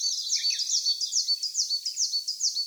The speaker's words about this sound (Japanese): ヒガラのさえずりはとても早口です。しかし体が小さいので声は小さく、ヒガラが鳴いている木の下で聞かないと声を確認できません。